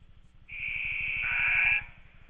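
A single long, shrill referee's whistle blast lasting over a second, steady and high-pitched, called for a foul after a missed deep three-point shot during a basketball game, with a low rhythmic thumping running underneath throughout.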